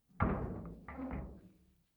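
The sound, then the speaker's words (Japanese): A door at the lowest level swings open with a brief scraping, rumbling sweep that lasts under two seconds, moderately loud, with no voices. “そしてそのドアを開けば。”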